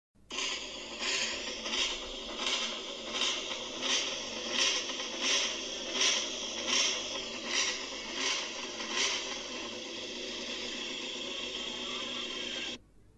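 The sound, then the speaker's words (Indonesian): A loud, continuous raspy exhaust noise from an engine, pulsing in a steady rhythm for about thirteen seconds before cutting off abruptly. No voices. “Delapan, suara knalpot.”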